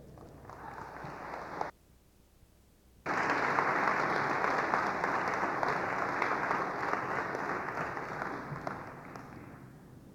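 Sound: audience applause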